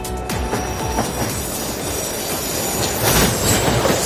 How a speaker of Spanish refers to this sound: Sonido de trenes en París, ahí es donde está la noticia.